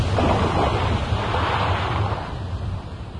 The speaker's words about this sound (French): Capitaine, regarde, la fureur de la mer s'est apaisée sur le champ. Même le vent s'est arrêté, c'est incroyable. C'est vraiment impossible, jamais le vent ne s'est arrêté de cette façon.